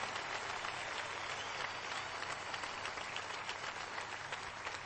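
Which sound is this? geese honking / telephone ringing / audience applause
audience applause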